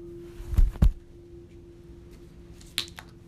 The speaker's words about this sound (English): Let me drink some water.